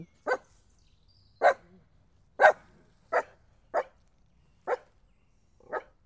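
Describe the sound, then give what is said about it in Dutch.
Two small dogs barking as they come walking up: about seven sharp, high yappy barks spaced unevenly over several seconds, each short and clear with quiet gaps between and no voices. “Kijk, er komen twee hondjes aangelopen.”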